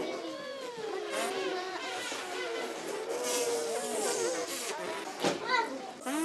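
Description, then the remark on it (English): A group of children buzz their lips pressed tightly together like brass players, a dense overlapping chorus of wavering, pitch-sliding buzzes that continues for several seconds, steady throughout. “So put your lips really tight together and go. Lips closed.”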